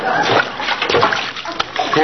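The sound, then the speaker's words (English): Diced potato cubes dropping into a pot of water with a series of busy splashes and sloshes, a bright watery clatter lasting a couple of seconds, with faint voice underneath. “Now stand back. I don't want to splash anybody.”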